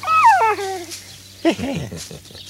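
dog whimpering and yipping

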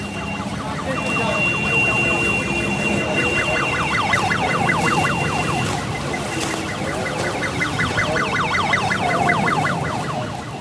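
ambulance siren

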